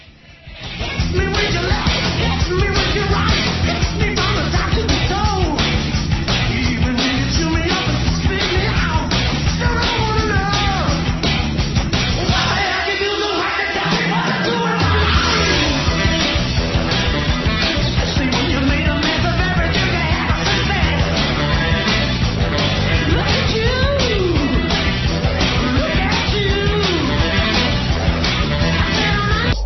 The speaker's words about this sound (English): Time to practice your synchronized screaming.